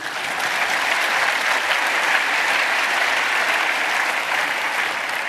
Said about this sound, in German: Genau, Applaus. Genau.